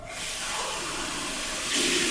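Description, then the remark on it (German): Someone takes a sip of water, producing a steady, loud hiss like a running shower that swells brighter near the end. No one speaks. “Ich trinke nochmal einen Schluck Wasser.”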